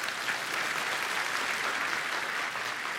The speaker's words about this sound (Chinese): 当然，一方面我们在感谢神，但另一方面我们真的要感谢每一位弟兄姐妹你们的慷慨奉献。 Amen， 为你们来鼓掌吧。